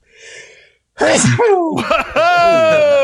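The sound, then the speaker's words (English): A single loud sneeze: a quick breathy intake, then an explosive burst trailing into a strained, voiced tail. No talking around it. “Bless you.”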